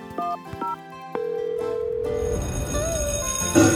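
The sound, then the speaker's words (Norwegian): A fire alarm goes off: a few short electronic beeps at different pitches, then a steady mid-pitched tone that holds for about a second before giving way to a loud, noisy rush. “Alle fire vet at når alarmen går, må de være veldig, veldig raske.”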